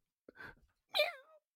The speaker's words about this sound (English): Meow. Meow. Hola. Oh, the kitty cat.